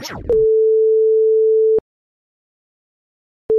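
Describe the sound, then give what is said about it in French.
A steady telephone line tone: a long, clear electronic beep lasting about a second and a half, then silence before the same tone starts again, following a short whooshing burst at the start. “Pourquoi je t'ai au téléphone?”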